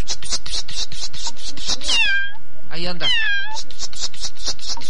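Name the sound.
kitten meowing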